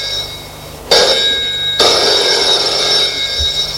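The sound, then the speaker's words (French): A telephone bell rings loudly, with a bright, metallic trill that kicks in with a second sharp burst and then keeps ringing steadily. No one speaks. “Téléphone sonne.”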